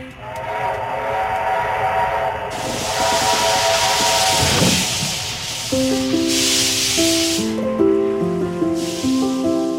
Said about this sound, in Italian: senti questo suono, è il treno a vapore dell'Ombelico del Mondo, ci saliamo